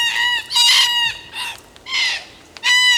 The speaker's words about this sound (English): I love the sound of red-tailed black cockatoos screeching from the trees.